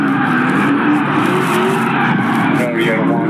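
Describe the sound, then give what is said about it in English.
Loud, continuous roar of car engines revving hard with rising and falling pitch, mixed with a harsh tire-screeching burnout noise, dense for the whole stretch, as hundreds of cars do burnouts on and around Halls Ferry. “released a video from the night when hundreds of cars were involved in a burnout on and around Halls Ferry and Mel.”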